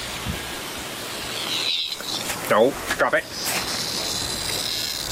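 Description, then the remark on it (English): A single cicada buzzes inside a dog's mouth, a steady, muffled, hissy drone running the whole time while a person speaks a few short words partway through. “Oh my God, those things are so loud. That's one cicada inside of a dog's mouth.”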